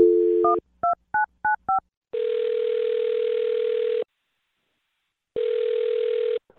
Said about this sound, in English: Well, I'm going to dial his phone number right now and see if we can get him on the phone. Here we go.